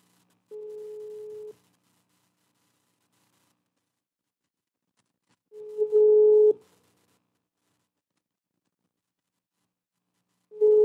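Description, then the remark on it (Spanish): After an old phone number is dialed, a telephone ringback tone sounds in steady, evenly spaced bursts, each about a second long, a flat mid-pitched buzz repeating with long silent gaps between rings. “¿Se da todavía su teléfono? A ver, vamos a marcar.”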